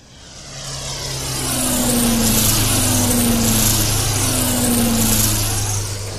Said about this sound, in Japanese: あのヘリどうもおかしい。